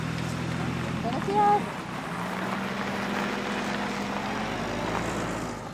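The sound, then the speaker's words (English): A farm machine's engine drones steadily as it moves a heavy bin of Bartlett pears during the Bartlett harvest in Hood River orchard country, with a brief high squeal early on and constant low rumble throughout. “So he's moving a bin of Bartlett's because we're in the middle of our Bartlett harvest right now.”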